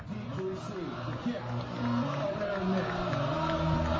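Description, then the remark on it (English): A homecoming crowd at a Hope College football game cheers a touchdown in a dense, sustained roar of many voices, holding steady for about four seconds and swelling slightly louder toward the end. “Now this homecoming crowd's fired up. We haven't heard that all day.”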